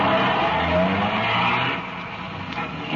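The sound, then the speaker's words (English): A car engine roars loudly as the vehicle pulls away, tires squealing and skidding on the road. The sound is steady, easing slightly toward the end, with no voices. “By 2:35, the other half pulled out, and a few minutes later, Ben and I followed.”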